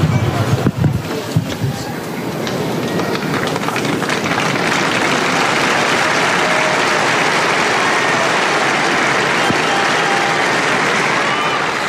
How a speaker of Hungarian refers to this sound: Tapsot hallva, kedves hallgatók is gondolhatják, hogy sokan vannak jelen a Szent Péter téren a Vatikánban.